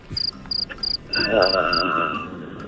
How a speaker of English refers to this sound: What can you figure out about the weather by counting cricket chirps?